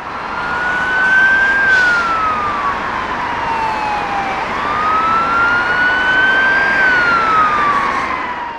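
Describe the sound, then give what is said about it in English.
Loud sirens of two fire engines arriving at a road accident on the M50 wail in slow rising and falling sweeps, over a steady rumble of road traffic, with no one talking. “So the fire brigade have just showed up. Two fire engines, they're closing the M50.”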